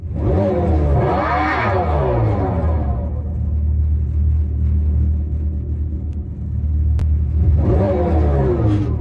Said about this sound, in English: It doesn't sound like a gas car, but it sounds like a revving motor of some kind.